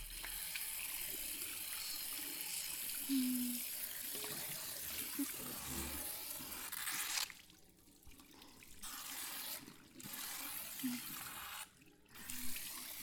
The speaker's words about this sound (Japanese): シャワーは熱くない？